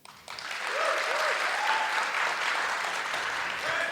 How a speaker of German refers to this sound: Das würde ich gerne mal als Publikum auch mal. Also einmal, wir machen das mit Applausometer. Einmal kurz Milch.